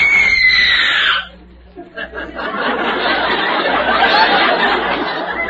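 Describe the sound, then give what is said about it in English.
A professional radio screamer, a woman, lets out a loud, shrill scream on request that lasts about a second and slides downward, followed after a brief pause by a swell of audience laughter and noisy chatter. “She's one of the best screamers on the radio. Miss …, will you scream for George”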